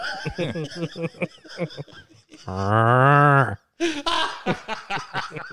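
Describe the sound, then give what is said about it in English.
A person does a long, loud drawn-out moo imitating a cow, wedged between bursts of chatter and chuckling from nearby voices. “And put one of them little voice boxes in the cow.”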